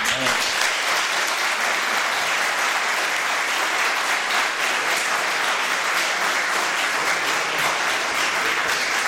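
Steady applause at a town council meeting fills the whole stretch, a dense, even wash of many hands clapping at constant loudness without pauses or speech.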